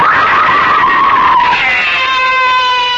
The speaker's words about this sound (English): Why am I screaming? It's just a dream. I'll stop screaming.